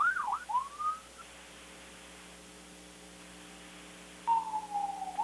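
A wailing fire truck siren, going by in the background during a baseball game, rises and falls for about a second, drops out, then returns with a falling tone near the end, over a steady electrical hum and hiss. No one speaks.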